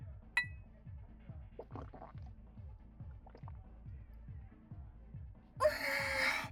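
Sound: shot glasses clinking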